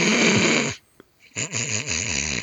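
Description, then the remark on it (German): A voice imitates a mother's loud snoring: two long, harsh, rattling snores, separated by a short silent pause, the second with a wobbling, fluttering rasp. “Meine Mutter ist währenddessen eingeschlafen und hat geschnarcht.”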